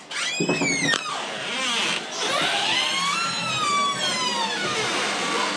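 A door hinge squeals in a long, loud, high-pitched creak, its wavering pitch gliding up and down for several seconds as a door in the New Cross house swings open; the door needs oiling.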